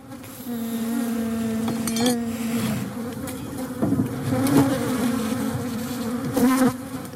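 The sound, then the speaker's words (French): A bee buzzes steadily, its drone holding a low hum throughout with brief swells in pitch and loudness as it moves around, no voices present. “Quels insectes tu veux nous parler ? L'abeille.”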